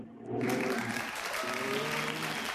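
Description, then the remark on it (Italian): A group bursts into steady applause after a brief quiet moment, dense clapping holding at an even level to the end, with a few voices faintly audible underneath. “No, belli gli applausi, ma il significato no.”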